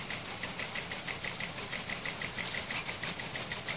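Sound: teletype machine clattering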